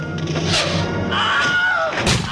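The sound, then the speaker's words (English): The Wilhelm scream, a stock sound effect first used in the 1950s and heard in 389 films as of July 2018: a sharp, high yell whose pitch slides downward, framed by heavy thudding impacts before and after, with no talking. “once you listen to the same scream again and again, it's less startling and shocking than it was the first time”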